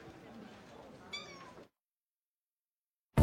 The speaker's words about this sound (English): Now I have more kittens than before.